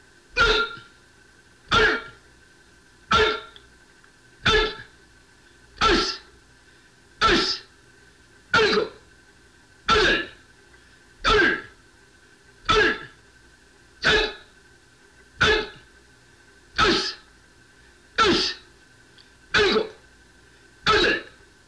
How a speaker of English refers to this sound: Offensive back punch left and right with a loud yelling.